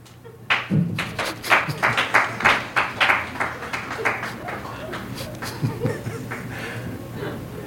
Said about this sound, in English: I think there was insufficient applause.